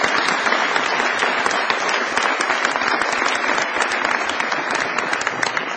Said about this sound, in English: And you deserve our country's gratitude, and I thank you. So could I ask you to applaud yourselves?